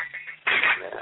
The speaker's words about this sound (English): So you're mixing it up with the pots and pans, you think?